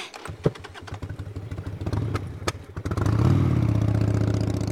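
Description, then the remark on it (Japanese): A motorcycle engine chugs with rapid, uneven firing pulses, then roars up into a loud, steady rising whine as the rider revs and accelerates away toward Lake Kawaguchi. “よし、川口湖まで吹っ飛ばすぞ。しっかり捕まってろよ。”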